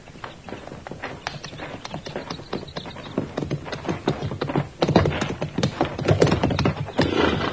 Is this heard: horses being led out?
yes